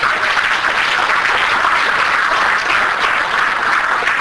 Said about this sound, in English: Give it another hand clap.